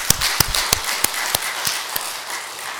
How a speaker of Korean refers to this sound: 예, 은혜로운 찬양 우리 주님께서 기뻐 받으시는 줄로 압니다. 우리가 하나님께 영광을 또 우리 찬양대에게는 격려의 박수 한번 올려드리시기 바랍니다.